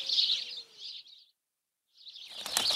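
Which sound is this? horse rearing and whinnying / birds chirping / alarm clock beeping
birds chirping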